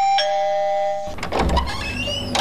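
An electronic doorbell at a front gate, pressed repeatedly in the early morning, rings loud with a sustained, buzzing chime that cuts off abruptly, followed by a rough burst of handling noise and a brief renewed ring at the end.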